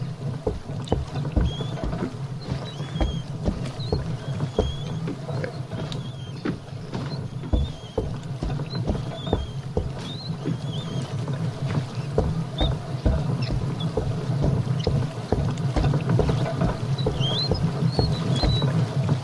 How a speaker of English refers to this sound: So I think where we need to go is towards that rumbling. It's by the mill wheel. So I think I'm in front of it, so I'm going to hold down W.